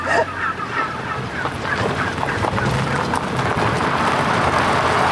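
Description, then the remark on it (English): A large flock of about 1,000 heritage breed wild turkeys gobbling and clucking all at once after breaking down an electric fence: a dense, continuous chorus of overlapping calls that swells steadily louder, with no talking. “The turkeys broke down the electric fence. You were almost assaulted by 1,000 turkeys.”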